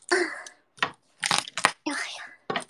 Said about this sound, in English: Have to crunch, crack the garlic.